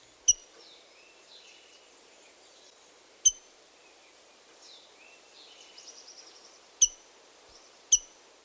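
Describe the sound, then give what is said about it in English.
A rose-breasted grosbeak gives four sharp, loud, metallic chink calls at uneven intervals, while softer warbling birdsong continues faintly in the background. “And finally, the rose-breasted grosbeak's metallic chink.”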